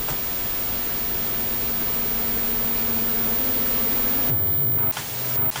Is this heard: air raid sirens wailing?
no